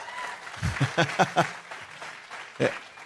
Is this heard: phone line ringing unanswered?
no